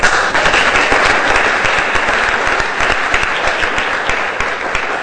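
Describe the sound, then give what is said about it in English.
A crowd at an evening event supporting the Leeds Community Church heating fund claps in sustained, dense applause, loud and steady for several seconds before tapering slightly at the end, with no voices over it. “And give yourself a big round of applause for coming out tonight to support this great heating fund for the Leeds Community Church.”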